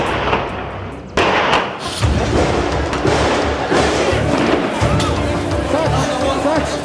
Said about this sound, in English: Gunshots, explosions, armed men taking over every floor, methodically shooting anyone in their way. That was the unbelievably brutal scene that played out in front of a shocked world September 21st, 2013.